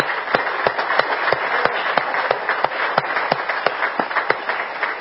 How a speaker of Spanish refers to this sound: Jóvenes que están con nosotros, pónganse de pie. Vamos a darles un aplauso a ellos, hermano.